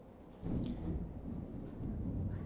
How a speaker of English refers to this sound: I love thunderstorms, by the way. If you don't like thunderstorms, I don't know what to tell you. I love thunderstorms. I don't want to get hit by lightning, but, you know, I like thunderstorms.